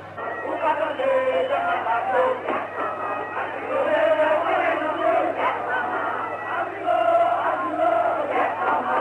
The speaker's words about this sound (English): Now the crowd's really grown. There are thousands on the street now, and they seem to be heading for the National Palace.